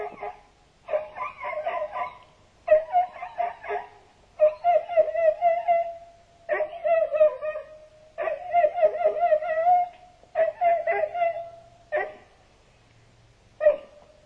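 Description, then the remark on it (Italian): A politician's dog lets out a run of whiny, high-pitched yelps and whimpers, fairly loud, in about ten bursts separated by short pauses, with no talking. “Sì, sì, sì, per chi non lo sapesse, si tratta della viva voce del cane dell'onorevole.”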